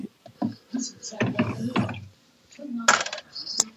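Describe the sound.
Someone handles a small 1.9 cubic foot mini beer fridge, making a run of clinks, rattles and knocks, with two sharper metallic clacks near the end; faint voices murmur underneath.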